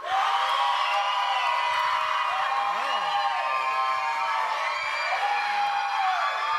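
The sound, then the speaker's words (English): The green section of a large audience cheers and whoops continuously on cue, a dense wall of voices with rising and falling high-pitched shouts and yells cutting through, loud and sustained throughout. “Green, let's hear it.”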